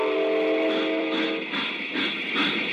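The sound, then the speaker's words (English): A steam locomotive starts off as its controls are worked to let water into the boiler and steam into the pistons: a steady roar of hissing steam with a whistle-like tone at first, then heavy rhythmic chuffs building up. No one speaks. “Now open the valve and let the water into the boiler. Then the steam into the pistons. Okay, we're off.”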